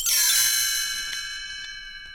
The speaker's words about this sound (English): You can read along with me in your book. You will notice time to turn the page when you hear the chimes ring like this.